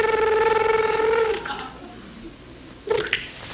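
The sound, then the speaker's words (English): A voice mimics a ringing telephone in a studio skit of a call to a 911 operator: a loud, trilling, buzzy tone held for about a second and a half, then a pause and a brief second burst. “Okay, so can you make a ringing noise?”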